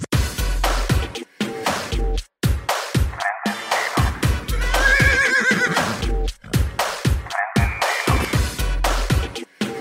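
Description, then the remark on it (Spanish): On television, a person imitates a horse's whinny, loud shaky neighing cries that rise and waver, repeated several times over roughly ten seconds and broken up by sharp, breathy bursts, with no talking. “Si uno está en la tele haciendo un sonido de un caballo, con lo que cuesta, obvio que te va a agarrar unos nervios bárbaros.”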